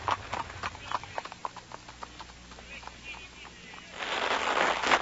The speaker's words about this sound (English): We drove off as Johann started the horses at a quick pace. In a short while, we had cleared the town and were driving in the German countryside. Johann seemed anxious and nervous as he drove the horses.